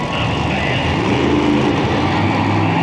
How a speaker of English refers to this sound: Okay, I know what you're thinking. The guy from the TV show is going really slow in that monster truck. And okay, I kind of was. But they are very hard to drive.